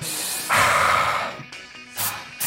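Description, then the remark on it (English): An aerosol spray can hisses in one long, steady burst of about a second, followed by two short, sharp sprays. No one speaks. “No, don't spray that shit!”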